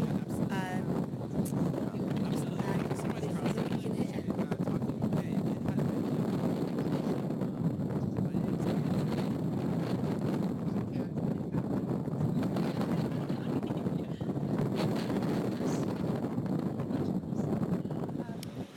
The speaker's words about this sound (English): The dogs are coming out onto the Mersey River. It's very sunny, windy day in Liverpool.